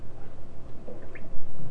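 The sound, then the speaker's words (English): Bathtub water drains after the plug is pulled out, with soft gurgling and bubbling, a steady wet rush dotted with a few brief higher blips, fairly quiet, with no voices. “Let's pull the plug out and make it bubble.”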